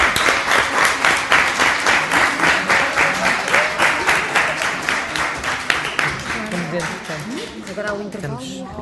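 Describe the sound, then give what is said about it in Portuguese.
Sustained applause from deputies fills a parliament chamber, many hands clapping in a dense, steady patter, after the Madeira recommendation project was approved with 22 votes. It gradually thins as a voice starts speaking over the last few seconds. “Muito bem, o projeto de recomendação da Madeira obteve 22 votos a favor, pelo que será o projeto de recomendação que vamos discutir na fase seguinte do debate, que é uma salva de palmas.”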